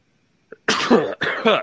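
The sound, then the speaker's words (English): A person sneezes, two forceful, breathy bursts in quick succession after a small click, with no talking around them. “Bless you.”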